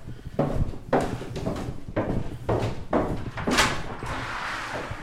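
A door is opened and shut several times in quick succession, each movement ending in a fairly loud wooden thump or knock, with a faint rattle between them and no voices.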